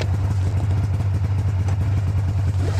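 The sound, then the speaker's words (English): A snowmobile engine runs steadily and loudly as a rescue crew rides snow machines towing sleds loaded with dog kennels and supplies on a Saturday morning: a deep continuous drone with a fast, rattling pulse and no pauses or voices throughout. “As the light came up on Saturday morning, the rescue crew got on their snow machines, towing sleds loaded with dog kennels and supplies.”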